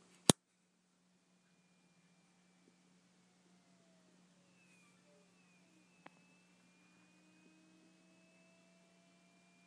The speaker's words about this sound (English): I don't know if it's a voltage regulator or a secondary power supply or what's going on in there, but you can actually hear an acoustic hum from the mixer. I'll just turn it on here.